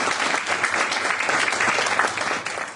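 A steady round of applause from a crowd, many hands clapping in a dense, continuous wash that holds at an even loudness for a few seconds before tapering slightly at the end.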